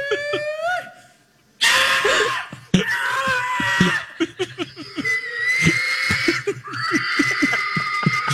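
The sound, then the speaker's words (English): A man's voice mimics a pig, letting out loud, high-pitched squeals that slide downward, followed by rapid bursts of snorting, grunting calls in an uneven rhythm, as a husband calls his wife to the dinner table. “Come on, pig. Come on, piggy.”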